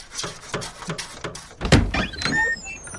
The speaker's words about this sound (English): The next time you scratch at this door, there better be an emergency, or I swear I'll...